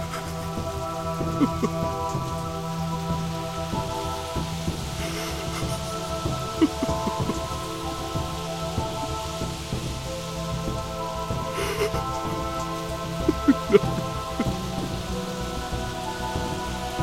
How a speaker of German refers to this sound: Es war Abend geworden. Immer noch regnete es in Strömen.